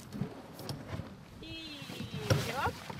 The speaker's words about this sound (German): Der Wind bläht die Segel, das Boot nimmt immer mehr Fahrt auf.